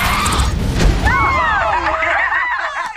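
On television, a pterodactyl destroys a flying object with its laser beam: a loud, rumbling explosion bursts out, then wavering laser-like zaps sweep up and down in pitch over the fading roar.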